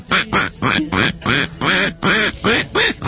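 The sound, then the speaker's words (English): A person imitates honking geese, speaking in the voice of the geese, with a rapid series of about ten loud, nasal, quacking honks in an uneven rhythm, with no other sounds. “Would you like to defend the geese in the voice of the geese?”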